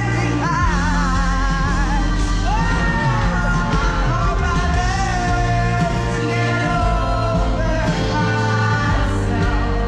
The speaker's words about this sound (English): The problem for me was the literal screaming. Like, and we'll play a little bit of it here.